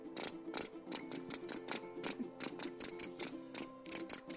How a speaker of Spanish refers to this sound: Y los grillos comenzaban a cantar.